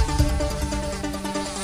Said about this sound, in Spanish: Zumbidos de mosquitos.